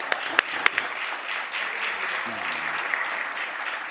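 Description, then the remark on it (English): Steady applause from a large group fills the legislative chamber, a dense wash of many hands clapping at once with a few sharper individual claps standing out, sustained throughout. “I wish everybody in the House to give them a warm round of applause.”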